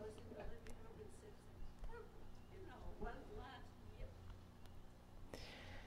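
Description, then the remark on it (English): A female dog whimpers and whines in rising, wavering tones, several drawn-out cries in a row, joining in with a song playing as a steady humming background. “It's a spirit-filled dog.”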